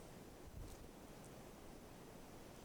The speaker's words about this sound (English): Yeah, I hear the waterfall again.